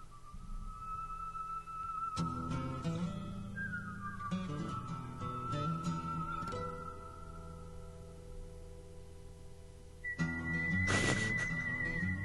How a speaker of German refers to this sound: Mit diesem Gepfeife, du erinnerst dich? Ja, so geil. Und der gesamte andere Sound wird an der Stelle ausgeblendet.